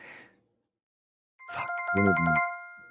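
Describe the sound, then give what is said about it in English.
A bright electronic phone ring of an incoming call starts up after a moment of silence, its stacked tonal pulses repeating rapidly and fairly loud, with a brief bit of low murmur before it. “Is someone ringing in?”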